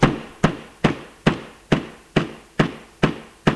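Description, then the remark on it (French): A fist pounds an apartment door in a steady series of about nine heavy, evenly spaced thuds, loud, each blow ringing briefly before the next. No voices are heard. “Tape du poing dans la porte.”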